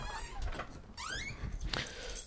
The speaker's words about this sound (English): Hold on, just opening the door.